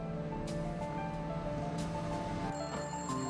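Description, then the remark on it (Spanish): A telephone in a phone booth at a local store rings with a steady electronic tone that holds throughout, set against a constant wash of rushing background noise, with no one speaking. “El teléfono ya estaba sonando cuando llegó.”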